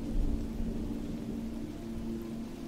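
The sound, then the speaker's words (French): A low, continuous rumble of thunder rolls beneath a steady wash of rain as a storm rises over a forest, dense and unbroken throughout with no voices. “Alors qu'autour de vous, les animaux rejoignent leurs abris pour se protéger de la tempête qui se lève”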